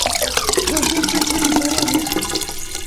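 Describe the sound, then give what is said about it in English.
Water pours steadily into a cat's water bowl for about three seconds, a continuous splashing stream with a faint pitch as the bowl fills. “It's kitty water time and the end of the line.”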